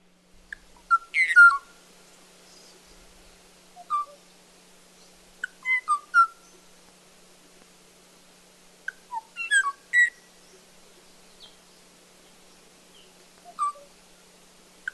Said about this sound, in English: Kauai o'o is one of the most haunting of all of those sounds. We actually have some sounds of it, so let's take a listen.